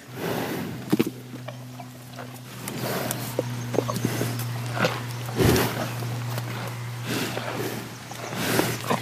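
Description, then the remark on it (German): Several animals crowding to feed, three snouts at once, snort and huff in short, breathy bursts at an irregular pace, with scuffling in between and a steady low hum running underneath throughout. “Die schnaufen.”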